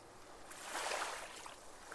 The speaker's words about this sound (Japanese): 潮が満ちてきた。波打ち際に座った二人の足を海水が洗い始めた。